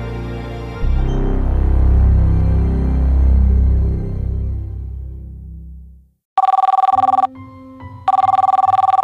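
A telephone rings loudly, two bright trilling bursts separated by a short pause, following a deep, swelling rumble that fades out into silence; the call then goes to voicemail.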